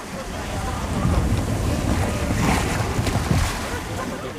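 Boats approach a jetty over steady wind buffeting and lapping water, a continuous rough rumble without clear breaks, with faint indistinct voices in the background.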